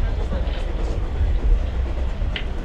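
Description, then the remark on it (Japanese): A steady, heavy low rumble of the sleeper limited express Hakutsuru rolling along the rails on the Tohoku Line toward Ueno, heard from inside a carriage, with a muffled voice faintly in the background. “特急白鶴は寝台特急になっております。”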